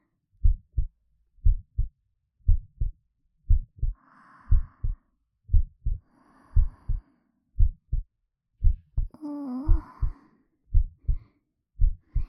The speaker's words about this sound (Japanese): ママの心臓の音する？この音好きなの？うん、聞いてていいよ。